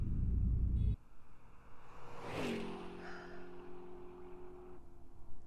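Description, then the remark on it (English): Road traffic with a deep engine rumble up front, then a vehicle sweeps past in a rising whoosh, its engine tone lingering and fading as it moves on. No one speaks. “God, there's so much fucking traffic.”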